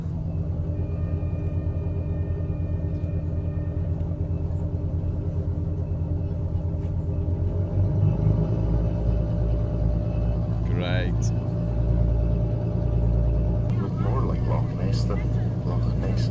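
The engine of a Cruise Loch Ness cruise boat on Loch Ness rumbles in a steady, deep droning hum that swells slightly louder partway through, with a couple of brief hissy bursts layered over the continuous low throb.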